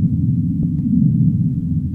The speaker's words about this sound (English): Sei whales, that low rumble in the south.